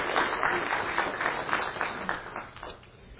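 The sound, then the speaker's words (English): An audience claps together in a sustained burst of applause for people who came up to be recognized, a dense rattle of many hands that gradually thins and softens toward the end. “Should we clap for them? Let's clap.”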